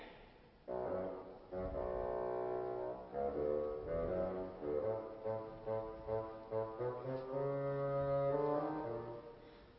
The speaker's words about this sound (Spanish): El abuelo por el fagot.